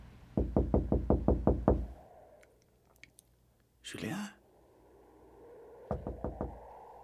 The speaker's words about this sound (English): It is now hours later, and the janitor is awakened by the sound of his boss knocking on the door.